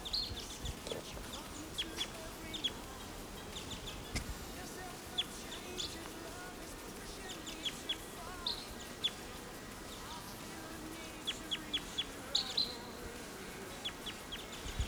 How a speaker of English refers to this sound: Here's a wild bird right above the camp.